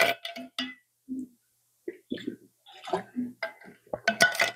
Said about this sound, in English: I'm going to take a quick drink of water.